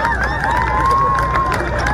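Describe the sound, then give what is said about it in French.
A huge, compact crowd of hundreds of thousands marching from République to Nation on 11 January 2015 roars in a dense, continuous clamor, loud, with shouts and whistles rising out of the steady wall of voices throughout. “Une émotion intense, des drapeaux à perte de vue, une clameur gigantesque pour un message unique.”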